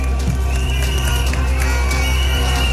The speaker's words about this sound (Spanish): Este es el aplauso al discurso de la CUT, la Central Unitaria de Trabajadores y Trabajadoras.